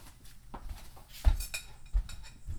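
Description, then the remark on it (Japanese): Dishes clink and knock together as plates are stacked and put away, a few sharp ceramic taps with softer rattling in between, no talking. “お姉ちゃん、お皿直して。”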